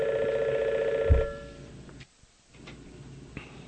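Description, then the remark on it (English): A telephone rings with a loud, warbling electronic tone, then cuts off abruptly after about a second with a soft thump, leaving quiet with faint background noise and no talking. “Okay, I was just, during the course of this message, it's been one phone call after the other”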